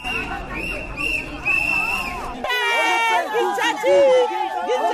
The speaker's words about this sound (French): Ils sont plus d'une cinquantaine à assiéger le complexe scolaire Saint-Charles pour exprimer leur mécontentement. Coups de sifflet, de casseroles et cris de colère. Ils ne sont pas du tout d'accord d'être au chômage.